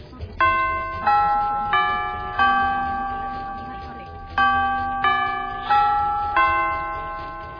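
A bright electronic chime plays two four-note phrases, each tone ringing and fading into the next, with a short pause between phrases. No one speaks over it.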